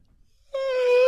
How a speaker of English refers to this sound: I make this sound drives my wife nuts when I yawn.